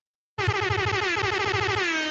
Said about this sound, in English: You get an air horn for that one